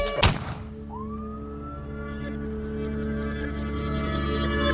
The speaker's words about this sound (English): When you hear the sirens coming, I can hear the sirens coming. Better run when you hear the sirens coming.